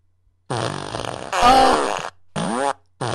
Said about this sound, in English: Oh, she's gonna give you the fart machine. I asked her if she wants the fart machine. Here, you take it.